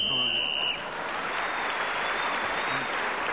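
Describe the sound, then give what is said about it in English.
On a panel game show, a shrill, steady whistle blows for under a second as Clement Freud is speaking, ending the round, then breaks into loud, sustained applause from a crowd that carries on to the end. “Clement Freud was again speaking as the whistle went, gained that extra point and has increased his lead.”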